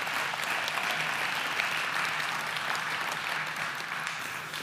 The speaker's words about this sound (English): I love the fact that you guys clapped. It's like, yeah, you guys made it another year. Good job. That's what birthdays are.